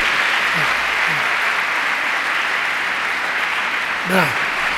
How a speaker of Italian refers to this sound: ti ricorderai di questo applauso che ti hanno fatto 1000 persone.